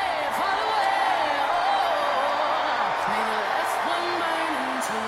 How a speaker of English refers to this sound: And the crowd enthused. This raucous crowd at the DNC, at the United Center. They're loving them some Kamala Harris.